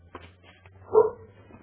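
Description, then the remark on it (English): A single dog bark sounds out, one short sharp burst over a low steady background hum, with a few faint scratchy noises before it. “Here is another dog. Coming from another.”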